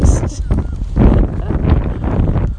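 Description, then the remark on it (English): A strong gust of wind buffets the microphone with a loud, rumbling roar that surges and eases unevenly for a few seconds, dominating. “I'm hoping this is just a gust, not an extended wind.”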